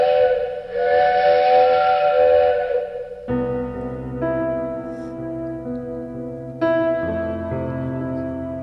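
A loud steam train whistle blows in long, breathy blasts as the train departs, its hissing chord shifting pitch a couple of times over several seconds, with no one talking.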